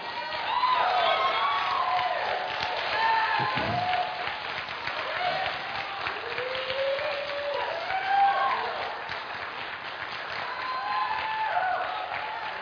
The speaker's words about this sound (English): You are a strange bunch. I'm working hard to take your foolishness to the woodshed, and you're cheering me on.